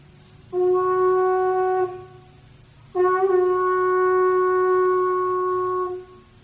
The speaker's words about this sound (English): I'm not going to try to sustain a blast for all of 10 seconds, but I'll step away from the mic so you can hear the pure sound of the conch shell before trying to demonstrate it a little bit.